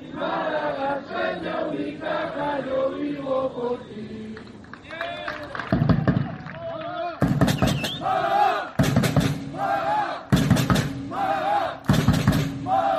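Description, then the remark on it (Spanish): A large crowd of Unicaja fans, the Marea Verde, chants together at the Carpena in a sung, rising-and-falling rhythm, then erupts into loud, repeated bursts of roaring cheers and shouts. “Pues ese grito, que se lo graben a fuego las personas que tengan que decidir, porque la Marea Verde, la afición de Unicaja siempre está ahí, siempre está del lado del equipo”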